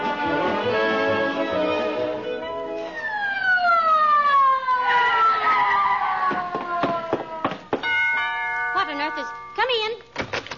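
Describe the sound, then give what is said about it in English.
An ambulance siren wails loudly, its pitch sliding down in a long falling sweep, then breaks into shorter choppy blasts with bursts of clatter and noise around it. “What is this, McGee? Why the ambulance?”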